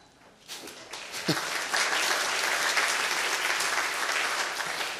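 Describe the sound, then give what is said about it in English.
An audience at a worship service breaks into applause during a responsive reading of the line 'clap your hands, all peoples', many hands clapping together in a dense, steady roar that swells within the first second and holds strong to the end. “And the first line, as you can see, says, clap your hands, all peoples. If you don't clap, it would be really weird.”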